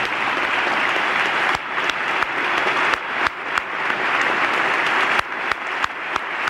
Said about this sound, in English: Now you'll hear there, you'll hear at the end, you heard that extra amplified clapping. I couldn't be sure it was Clinton because this was the 1997 State of the Union, but it's positively ancient in terms of production values.